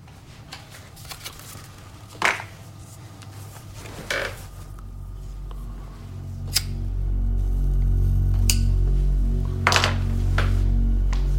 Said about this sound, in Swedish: Han tänder en cigarett under fläkten i köket. Marlboros röda.